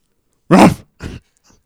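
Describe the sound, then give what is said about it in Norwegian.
A person imitates a cocker spaniel's bark with two sharp, throaty woofs, the first loud and the second softer, followed by a faint breathy trailing sound. “Og så skal du bjeffe som en kokkespaniel.”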